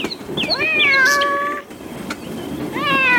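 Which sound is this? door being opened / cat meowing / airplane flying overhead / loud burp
cat meowing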